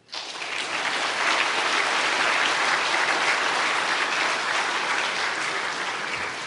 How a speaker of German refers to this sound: Und wie ich heute auch gelernt habe und gehört habe, und das ist unwahrscheinlich beeindruckend, der DRC hat 30.000 Mitglieder und ist der größte Verband Deutschland und der drittgrößte in der Welt. Ich glaube, das ist auch ein Applaus wert.